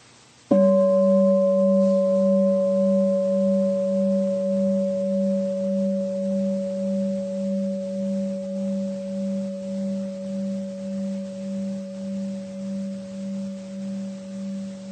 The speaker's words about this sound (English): Now again, listen to the sound of the gong.